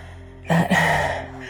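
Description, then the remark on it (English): A shuddering breath: a sharp, broken intake in two quick catches, then a longer breathy exhale that slowly fades. It's fairly loud, with no talking. “That shudder.”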